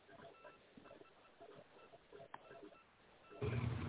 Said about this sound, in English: Sorry, a little coughing jag.